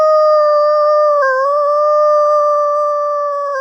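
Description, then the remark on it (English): A guide imitates an American wolf howl on a hillside at night, echoing back another howl: one long, loud, steady, high note held for several seconds, with a brief dip in pitch partway through, and no other sounds around it. “echoes back with an American wolf howl. It has a higher pitched yip, similar to that of a coyote.”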